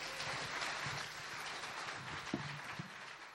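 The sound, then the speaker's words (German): An audience applauds speaker Oliver Schalk at an event, many hands clapping into a dense, steady crackle that holds evenly for a few seconds without building or fading. No one speaks over it. “Vielen Dank dir erstmal und nochmal einen herzlichen Applaus für Oliver Schalk.”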